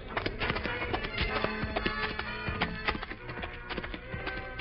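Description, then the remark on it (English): The hooves of the horses Silver and Scout clip-clop in a dense, irregular patter of hard knocks on a steady, busy background, with no voices. “Better leave the horses here, Tonto.”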